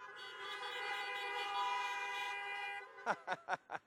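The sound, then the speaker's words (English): Several car horns blare together in a long, sustained honk, followed by four short, sharp toots in quick succession, as worshippers honk in a church parking lot during an outdoor service, with no talking. “And I tell you, I know there's a little bit of a delay, but if you hear me in the parking lot and you're happy to be here today, why don't you honk your horn a few times?”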